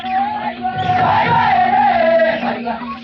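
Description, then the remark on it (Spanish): In the jungle, a group of tribesmen shout and sing native ritual chants around ten red-painted wooden boxes, with loud sustained yells rising and falling over a steady low drone, continuous for the whole stretch. “Y unos instantes después, se oyen voces, gritos, cantos nativos.”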